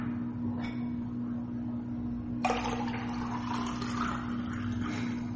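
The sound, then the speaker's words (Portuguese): Drinking water pours steadily into a half-litre cup for a few seconds, a rushing, splashing stream that starts abruptly and stays fairly even, over a constant low electrical hum. No one speaks. “Ih, acabou a água, deixa eu pegar mais aqui, peraí.”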